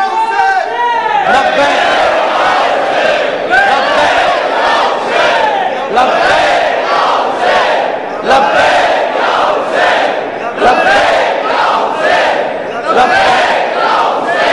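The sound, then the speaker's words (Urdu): A large crowd loudly chants the religious slogan "Labbaik Ya Hussain" in unison, the roaring call repeating in strong rhythmic bursts every couple of seconds, with many voices blending into a dense, sustained din. “بس اسی نعرہ, یہی نعرہ ایک بار لگائیے آپ تاکہ مجھے پتہ چلے کہ آپ کتنے بیدار ہیں.”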